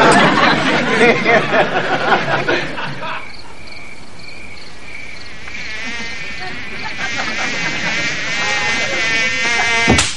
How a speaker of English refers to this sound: Good Lord! Need an extra pair of hands just for the mosquitoes.